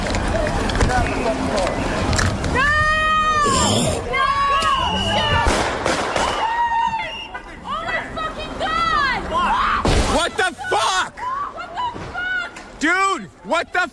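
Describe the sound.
Loud, agitated shouting from protesters shocked by an arrest, voices rising and overlapping throughout, with a sudden heavy crash partway through as a car, its driver shot dead at the wheel, hits another parked car a few metres further on, before the yelling continues.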